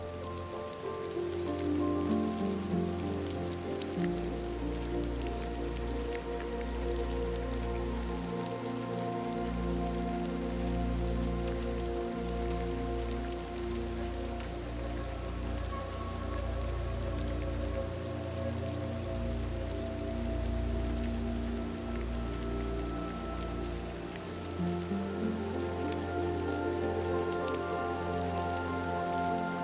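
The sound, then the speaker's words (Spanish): Steady rain pattering on a surface, a continuous soft hiss with scattered drops, mixed with low sustained tones like a gentle background drone. No one speaks. “Y te permites relajarte con el hipnótico y agradable sonido de la lluvia.”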